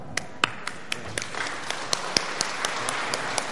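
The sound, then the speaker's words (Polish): A small crowd at an awards ceremony applauds the winners receiving distinctions and IDOL statuettes, with crisp, uneven claps popping out over a soft wash of hand-clapping, moderately loud and steady throughout, with no talking. “Oczywiście, Szanowni Państwo, wielkie brawa dla wszystkich zwycięzców, otrzymujących wyróżnienie i statuetki IDOL.”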